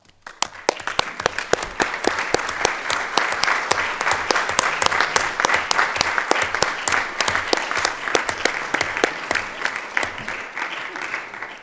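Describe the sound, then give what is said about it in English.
A large audience, asked to stand, applauds colleagues steadily for over ten seconds, a dense wash of clapping hands that stays full and even throughout before tapering slightly at the end. “ask them all to stand up so that you can give them a huge round of applause.”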